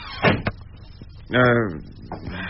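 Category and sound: household object, door being closed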